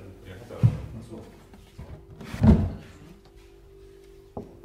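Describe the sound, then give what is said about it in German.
A heavy wooden coffin lid is placed on and closed over a person lying in the coffin: two dull thuds a couple of seconds apart, followed by a faint knock near the end. “Manche stimmen sogar zu, dass der Deckel draufgelegt wird.”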